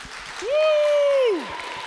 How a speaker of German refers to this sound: Sollen wir denen mal einen großen Applaus geben? Ja? 1, 2, 3.